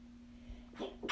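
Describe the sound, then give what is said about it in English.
A quick sneeze, a short breathy burst followed by a sharper, brighter blast, against a quiet background with a faint steady hum and no talking. “Bless you.”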